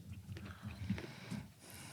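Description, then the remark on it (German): Quiet chewing with soft, irregular mouth clicks and moist smacking bites over about two seconds, with no voices. “Das ist ja nur ein Kauen.”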